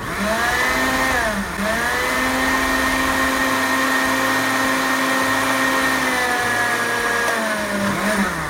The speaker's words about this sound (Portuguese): Quando a cenoura estiver macia, eu vou bater tudo no liquidificador. Deixa eu colocar tudo aqui no liquidificador e vamos bater.